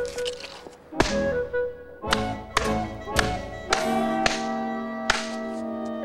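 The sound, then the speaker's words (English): A quick run of sharp slaps as a woman slaps a man across the face, about half a dozen loud cracks spaced unevenly over a steady musical backdrop, with no talking. “Each night has finished with Rita slapping his face.”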